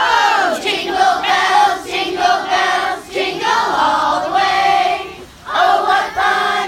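A large crowd sings Jingle Bells together, many voices blending into a loud, continuous sung melody with brief dips between phrases.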